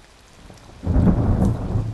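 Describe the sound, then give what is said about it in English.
Steady rain hisses softly, then a deep rumble of thunder swells in after a moment and rolls on, loud and broad, over the continuing downpour, during a thunderstorm on a night tour at Addo Elephant National Park in South Africa. “And he has to take care of the visitors who show up for night tours, even in the middle of a thunderstorm.”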